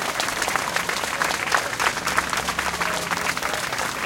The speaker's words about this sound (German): Aber zuerst bitte ich um einen großen Applaus für alle Teams.